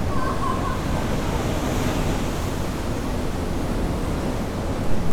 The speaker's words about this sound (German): Ja, und ich gucke gerade aufs Mittelmeer. Nochmal eine Runde Meeresrauschen. Ich halte mal das Mikro hoch.